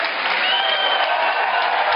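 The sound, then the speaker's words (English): A crowd claps steadily for the full two seconds, a dense, even wash of many hands with no pauses or talk on top, an audience answering a poll by clapping. “How many think they should go through a process that maybe give them a chance? Clap. We got to hear you.”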